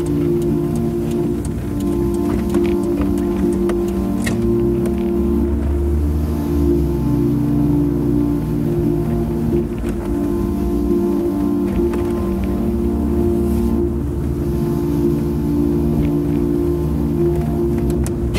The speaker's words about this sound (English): we're already driving, already past MBZ on the highway, we're already vying there, f***ing cruising on the highway